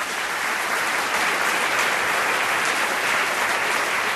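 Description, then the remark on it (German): A burst of crowd applause, a sound effect played in by the host, runs steadily for several seconds: dense clapping at an even, loud level with no talking over it. “Würde ich hier mal einen Applaus einspielen.”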